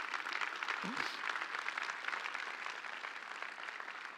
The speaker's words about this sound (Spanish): ¿Alguien le puede dar un aplauso a ese Dios?